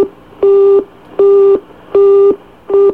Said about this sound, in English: It's busy. I'll try it one more time. Okay. I knew that was a busy.